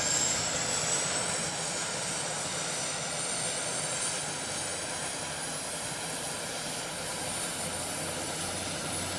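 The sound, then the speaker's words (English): The turboprop engines of a Turbo DC-3 starting up with a jet-like roar: a loud, steady rushing drone, topped by a thin high whine that slowly climbs in pitch as they spool up. No voices. “So when starting the engines, you can immediately hear the difference. The turboprop sounds like a jet, no more buzzing of a piston engine.”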